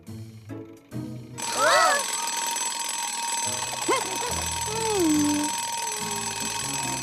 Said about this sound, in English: Not as long as we stay on schedule. This timer will help us stay on time.